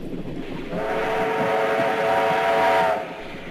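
A train rumbles along steadily while a sustained whistle sounds for about two seconds over the running noise, then cuts off as the rumble continues.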